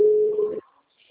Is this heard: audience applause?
no